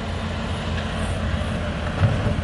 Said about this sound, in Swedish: Ja, nu hör vi cementblandarna som åker förbi och vi står vid murbygget på en av alla de platser längs den 314 mil långa gränsen där man bygger murar och stängsel.